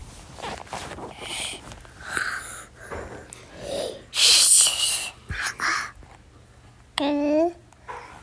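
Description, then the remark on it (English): A young girl imitates snoring after looking at a picture of a sleeping baby, with a series of breathy, wheezy snorts and rasping inhales, ending on a short squeaky vocal sound. “Can you do your snore? The baby's sleeping.”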